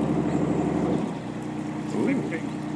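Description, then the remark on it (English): A boat's engine drones steadily while it moves through water, with a constant wash of splashing underneath and faint voices briefly audible. “No, recording the sounds of the boat.”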